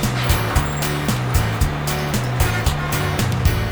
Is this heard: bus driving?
yes